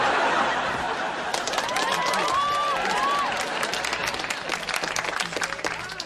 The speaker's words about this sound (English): Why is everybody cheering? Well, because nobody's ever seen folks hold a table for 3 hours without sinking a single shot.